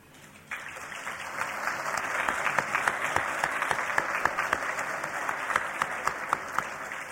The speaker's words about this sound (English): And they all deserve a warm round of applause.